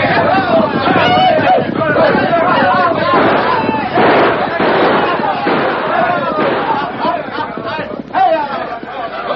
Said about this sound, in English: Day and night, the rattle of gunshots banged away.